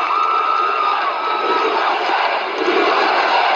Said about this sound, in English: Listen to the size of that crowd. These are young people.